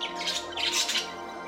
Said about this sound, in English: He touches a picture on the wall. The birds in the picture sing.